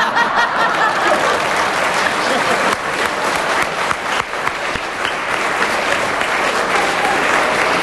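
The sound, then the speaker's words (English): Loud, sustained applause from an audience, a dense steady clatter of many hands clapping for the whole stretch, with a few scattered chuckles mixed in and no one speaking. “The audience applause tells me that we must give Peter Jones a bonus point for a very good challenge”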